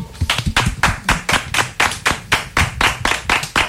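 Steady hand clapping, roughly fourteen sharp, evenly spaced claps at a quick rhythm, fairly loud and bright, with no voices over them.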